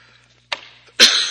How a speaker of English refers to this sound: Excuse me. I got the same cough I had last week. Good news, I hear it only lasts a couple years, so it should be gone. Eventually.